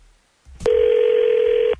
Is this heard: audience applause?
no